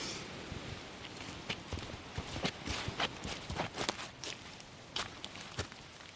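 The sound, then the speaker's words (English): Steady footsteps walking outdoors toward a hut in cold, windy weather, a series of crisp, crunchy steps at an unhurried, slightly uneven pace over a faint background hiss, with no voices. “Oh, well, we better keep walking.”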